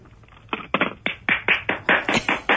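Hand clapping breaks out after a brief quiet: about a dozen sharp, evenly spaced claps in a steady quick rhythm, fairly loud, with no talking over them.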